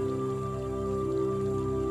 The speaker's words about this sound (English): Aware of all the sounds around you, the waves as they roll in. Every now and then a larger than usual wave, that lovely noise as it breaks and rolls in.